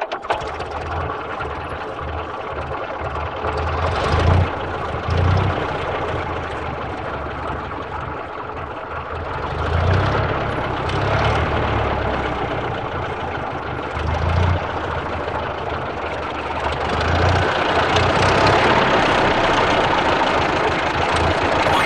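An old car engine runs steadily with a rough, low mechanical rumble and rhythmic knocking, swelling slightly in intensity at intervals before settling back into its idle chug.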